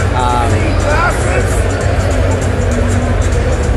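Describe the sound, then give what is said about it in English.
A loud, steady crowd roar fills the whole recording, with raised voices and shouted calls rising out of it early on, as sports fans at a Princeton vs Rutgers game jeer the referees with shouts like 'how much are they paying you?' and 'you're blind, you need glasses'. “Some nice jeering of the referees from some people.”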